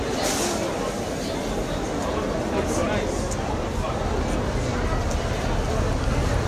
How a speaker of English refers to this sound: Hello listeners, I'm on a boat. Yes, well why not? A boat in the centre of London. Now, we've been on the buses quite a lot during episodes of the Shiloh podcast, but we've never been on a boat. It's called the Thames Clipper.